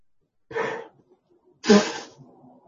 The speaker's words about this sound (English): Okay. Sorry about that. Round of sneezes. We'll see if we can keep them down.